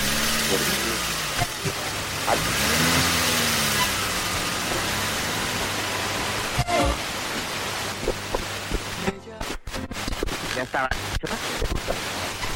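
A car engine hums steadily under a wash of road noise, its pitch rising and falling as it revs up and accelerates, with a few brief dropouts near the end.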